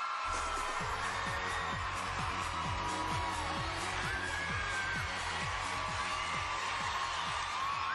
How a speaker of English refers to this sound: Singing that song, and you heard the applause.